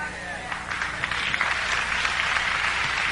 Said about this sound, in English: Y'all still ain't get it. Y'all clapping, but you ain't get it. You sure you got it? You clapping, you get it?